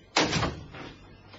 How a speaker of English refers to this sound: I opened the window and looked out.